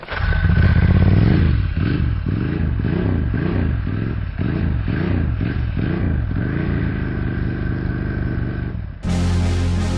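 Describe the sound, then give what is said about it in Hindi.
A motorcycle is kick-started over and over, its engine coughing and clattering in a steady, rapid rhythm of low, sputtering pulses. It never catches before the sound cuts off abruptly near the end. “भाई गाड़ी स्टार्ट नहीं हो रही, किक नहीं लग रही। किक नहीं लग रही, अब लगेगी।”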